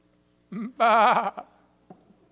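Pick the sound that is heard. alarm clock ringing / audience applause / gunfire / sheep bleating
sheep bleating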